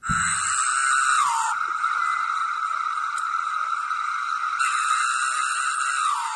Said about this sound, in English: Ew. That's an individual cicada? Yes. It sounds like it's a bunch of them, doesn't it?